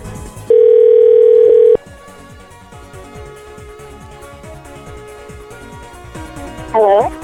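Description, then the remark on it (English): A loud, steady telephone dial tone hums for just over a second, then cuts off abruptly, leaving quieter background noise and a brief warbling sound near the end. “Don't worry about who it is, just hang up the phone.”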